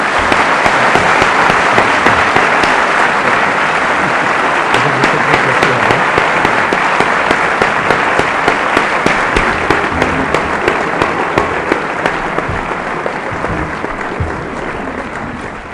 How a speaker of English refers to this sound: I must say I thoroughly enjoyed it. I hope that you weren't all too bored. And can you please give George a big round of applause for coming?